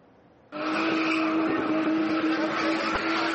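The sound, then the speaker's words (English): A car engine roars to life and revs hard while tires squeal continuously, a loud, sustained screech as the driver spins the car in quick, tight circles in spinning, a turbocharged motorsport from South Africa. No one speaks. “This is spinning, a turbocharged sport where drivers spin cars in quick, tight circles while passengers perform treacherous, sometimes death-defying stunts.”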